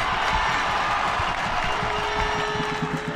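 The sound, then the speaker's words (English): Detroit City FC supporters in the stands roar and cheer steadily after a Detroit City goal by number 10, with clapping mixed into the dense wash of voices, loud and unbroken throughout. “Supporters are there in the stands singing, cheering, clapping, and we're behind our team 100% every game.”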